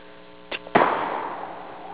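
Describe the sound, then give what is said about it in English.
A person vocally imitates a washing machine's end-of-cycle signal: a steady, buzzy harmonic drone, then two sharp knocks, the second opening into a rushing wash of noise that slowly fades. “Washer went off. When it goes off, it goes.”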